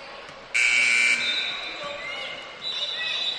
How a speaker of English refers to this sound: That got blocked. Knocked around and for a moment sat with Boomslang, and now they will blow the whistle.